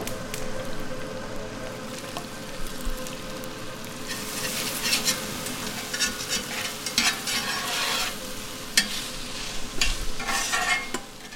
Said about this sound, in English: Okay, so now we're going to cook off the onions, and I'm going to do it in the chicken fat / grease.